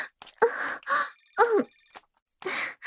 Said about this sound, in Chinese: 哎，是姐姐的电话。